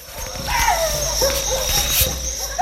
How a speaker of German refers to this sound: Still ist es nicht unbedingt, nachts in einer der vielen Teegärten im indischen Distrikt Darjeeling. Die Hunde finden ständig einen Anlass, die Nachtruhe zu stören.